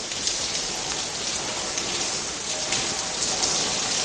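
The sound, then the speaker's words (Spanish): Heavy rain with intermittent downpours pours steadily onto the streets of Seville in the morning, at the hour the Corpus procession should have passed, a dense, continuous hiss with fine patters of drops, holding an even loudness throughout with no voices. “Llueve de manera intensa en Sevilla con chaparrones intermitentes.”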